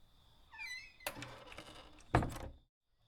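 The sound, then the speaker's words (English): An unlocked wooden cabin door creaks as it is pushed open, dragging with a scraping rustle before it bumps to a stop with a dull thud. Fairly loud, with no voices. “Okay, door isn't locked.”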